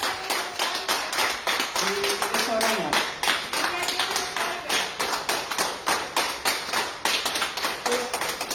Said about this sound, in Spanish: y lo ingresan en el Hospital de Santa Lucía, ahí estuvo también 10 días y fue el primero al que le pudieron dar el alta, y por eso pues podíamos escuchar, por ejemplo, estos aplausos que le grababan los propios sanitarios.